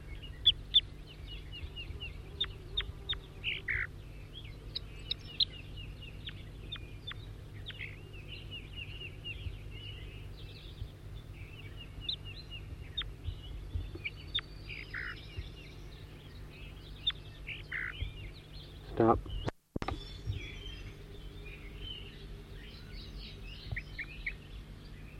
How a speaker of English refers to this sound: Four, three, and back in song, trying to get the new bird again, who's giving loud flight calls occasionally. New bird. 4-3.